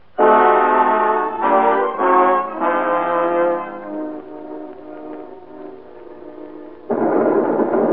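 Heavy rain with thunder: a loud, rolling rumble for several seconds that eases into a quieter steady wash, then swells abruptly loud again at the end. No one speaks.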